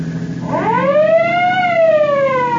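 A vehicle siren winds up and wails in a long rising and falling sweep, loud and close, with a low engine rumble beneath and no voices.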